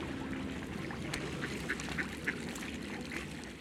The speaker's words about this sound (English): I love coming here and feeding the ducks.